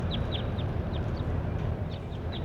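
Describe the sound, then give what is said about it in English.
A bird, recorded as bird number 26, calls with a series of short, high-pitched chirps, about eight in quick irregular succession, over a steady low rumbling background noise. “Here's bird 26 again.”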